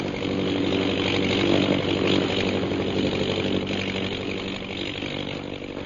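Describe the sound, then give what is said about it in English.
The engine of a British government airplane drones steadily overhead, a loud, continuous buzzing roar with a layered harmonic hum that swells slightly and then eases off, with no voices. “Look, a plane.”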